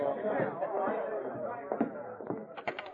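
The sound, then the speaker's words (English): Steady crowd chatter in a cafe, a dense murmur of many overlapping voices with no clear words, joined near the end by a few short sharp knocks. “Then he made his way through the crowd to one of the rooms in back of the cafe.”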